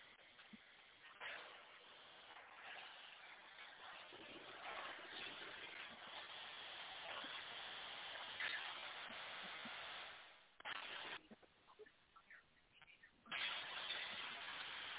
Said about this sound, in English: Somebody sound like they washing their car at the car wash. Oh, man.